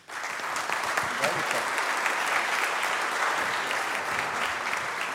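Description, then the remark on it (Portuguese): Steady audience applause for the referees at a ceremony celebrating an unbeaten Troféu Piratininga championship, a dense wash of many hands clapping at an even, sustained level for about five seconds with no pause or build. “Vocês também merecem aplausos.”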